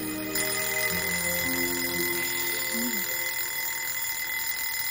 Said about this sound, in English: Now 6:30 in the morning, her alarm clock goes off.